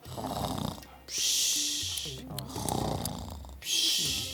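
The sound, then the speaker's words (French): Several members of a family, asleep on cushions after a long journey, snore loudly, rough rumbling inhales alternating with long hissing exhales in an uneven, overlapping rhythm. “Et ils ronflent tous comme des moteurs de tuk-tuk.”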